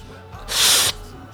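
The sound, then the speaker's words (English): A static effect in a song's breakdown: a brief, loud burst of harsh hissing static, bright and noisy, swells in for under half a second and then cuts off abruptly, with only a low murmur of music around it. “This is the weird breakdown that has this weird static effect on it.”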